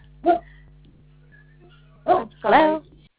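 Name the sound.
great Dane barking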